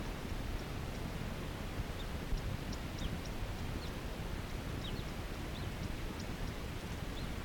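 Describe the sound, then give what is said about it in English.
A male crossbill calling nearby gives a series of short, high chip calls at irregular intervals, fairly faint against a steady hiss of wind or rain-like background noise. “That wasn't a female, that was a male. Right nearby, he's calling. Okay, he's calling now.”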